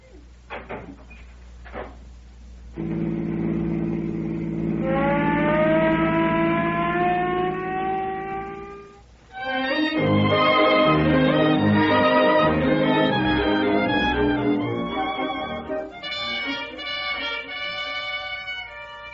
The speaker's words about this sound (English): Will you pull the siren open all the way?